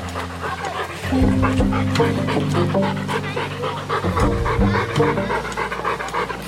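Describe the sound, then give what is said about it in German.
A dog pants in quick, steady, rhythmic breaths at a dog park in Nordpark, Erfurt, Germany, continuing throughout over a low, sustained tonal hum in the background. “Hunde wissen nicht, wo die Hundewiese offiziell aufhört.”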